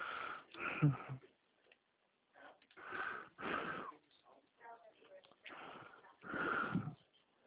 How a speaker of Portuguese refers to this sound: O senhor está correndo? Não, não, tô bem. Eu estou sentindo a sua respiração um pouco Ah, ofegante.